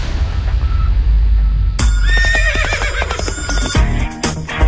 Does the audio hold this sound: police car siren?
no